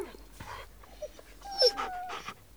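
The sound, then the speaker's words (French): A dog whimpers softly in a few short, high-pitched whines, with some quiet snuffling and panting between them, not loud, with no talking. “La fenêtre cassée, la dame par terre, les chats et les chiens qui sont tristes, c'est vraiment une journée catastrophe.”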